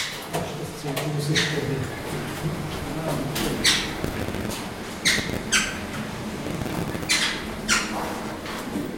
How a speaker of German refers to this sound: macht den Transportkäfig auf und die vier Vögel flattern raus.